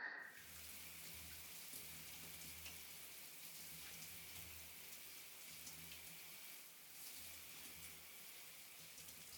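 Shower water sprays steadily, rinsing off soap foam, a continuous hissing splash that holds at an even level for the whole stretch, with no voices.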